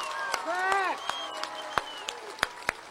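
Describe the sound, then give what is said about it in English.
A handful of scattered, irregular claps from an audience, sharp and fairly loud, rather than full applause. A voice with rising and falling tones sounds over the first second. “Come on, people, clap.”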